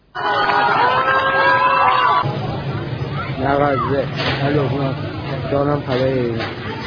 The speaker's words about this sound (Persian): تصاویری از اعتراضات شب گذشته در شهرهای قشم، نازی‌آباد، تهران، اردبیل، دهدشت، تهران سر و کاشمر به دستمون رسید. از اتاق فرمان می‌خوایم برامون پخش کنیم.